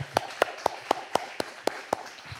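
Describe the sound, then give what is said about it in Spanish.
One person claps their hands eight times in a steady, quick rhythm, each clap sharp and bright, with a faint murmur underneath and nothing else going on. “Déjenme a mí, yo voy a aplaudir.”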